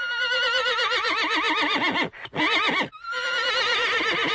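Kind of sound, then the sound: animal, horse neighing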